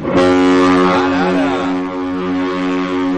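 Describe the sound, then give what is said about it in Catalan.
A deep, loud horn of the cruise ship Symphony of the Seas blasts continuously, a rich low drone with stacked harmonics holding steady for several seconds, booming, with no voices. “Aquest és el Symphony of the Seas?”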